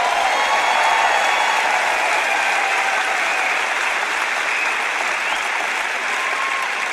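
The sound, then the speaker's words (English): An audience claps steadily and continuously, a dense crackle of many hands with a fairly constant loudness throughout, without any voices over it. “Come on, if you're going to clap, don't patty cake.”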